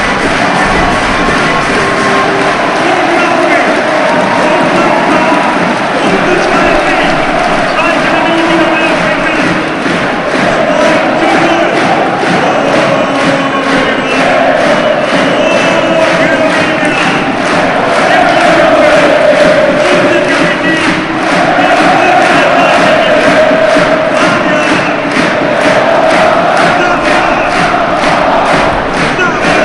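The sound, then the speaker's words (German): A dense football stadium crowd in Bielefeld roars and cheers continuously after Arminia's second goal for a 2:0 lead against Union, a loud sustained wall of voices with rhythmic surges and chanting pulses running through it. “Und ich sage erstmal nichts, genießt hier diese Jubel, dieses 2:0.”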